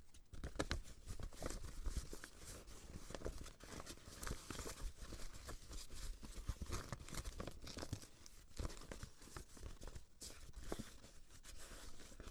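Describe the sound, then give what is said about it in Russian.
Continuous paper handling: crisp crinkling and rustling with frequent sharp creases and rubs as a single sheet of paper is folded over and over, with no talking. “У нас есть только лист бумаги. А сейчас я собираюсь кое-что создать.”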